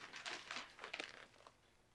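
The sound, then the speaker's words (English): Dry paper crinkles and rustles in a few quick bursts, fairly quiet, as newspaper pages are shuffled and handed to another person at breakfast, with no voices. “Would you like part of the paper?”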